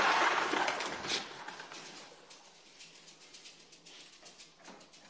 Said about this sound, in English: Pigeons flutter around Neil.